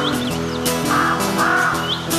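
A crow caws harshly several times in quick succession, the rasping calls loud over a steady humming background.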